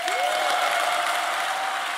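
Sustained applause from a large audience at an SPD political speech, a dense, steady wash of clapping that stays loud throughout, with a faint tonal whine running underneath and no speech over it.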